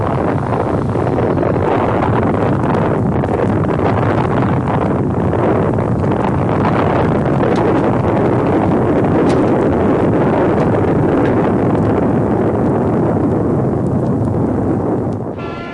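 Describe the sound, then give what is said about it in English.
A building collapses in a demolition, a loud, dense rumbling roar of crashing debris that holds steady for about fifteen seconds before easing off at the very end. No voices. “We're going to knock down this building now.”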